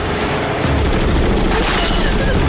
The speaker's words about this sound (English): Dead Reckoning arrives in town and opens fire on the zombies. Hordes of zombies are mown down.